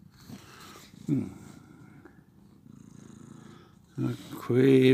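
domestic cat purring

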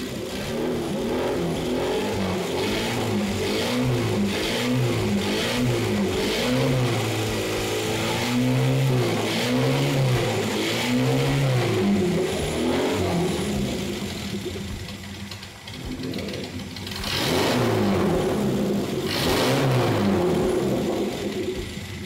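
engine revving up

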